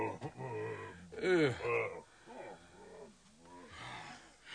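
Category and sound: animal, bear growling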